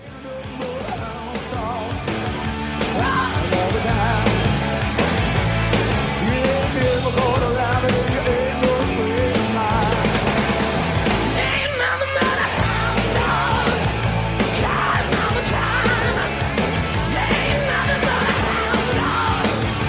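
A loud, driving rock and roll recording plays steadily, with a shouted lead vocal over pounding drums and twangy guitar in a fast, bouncing rhythm, a brief dip near the middle before it charges on.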